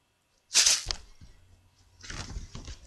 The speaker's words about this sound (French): Oh, j'entends la porte qui grince.